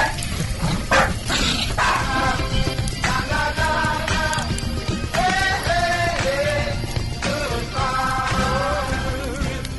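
A dog named Peanut barks repeatedly in a run of short, bright yaps, loud, over a constant rushing background like running water.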